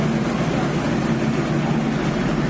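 A ferry's engine starting up for the short crossing over the Trave estuary to the Priwall at Travemünde on the Baltic Sea, droning in a steady, low rumble with a broad wash of noise on top, holding an even level throughout with no voices.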